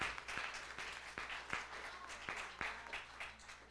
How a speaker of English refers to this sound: Now let's give a round of applause for our choir. Welcome to our choir, officially.